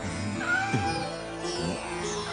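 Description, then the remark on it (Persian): A cat meows twice in quick succession, drawn-out, with a faint steady hum of background noise and no talking. “انگار صدای خودشه.”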